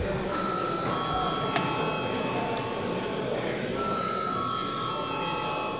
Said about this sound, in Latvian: Un mums ir atkal jāreģistrējās. Lūdzu zvanu.